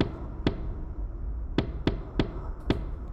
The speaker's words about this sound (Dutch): Hij doet teken naar zijn kompaan die stevig met zijn grote voeten op de houten ophaalbrug begint te roffelen.